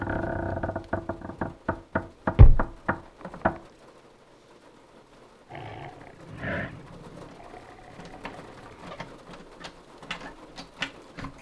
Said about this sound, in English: Did you hear that? Yeah, that's the third time. That sounds like it's on the porch. Bear? It's big, so yeah. Maybe a moose, maybe something else.